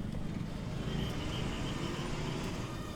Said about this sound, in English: Stepping out of the airport, the humid air and the cacophony of traffic hits me like a wave. And soon I feel totally at home, like I never left.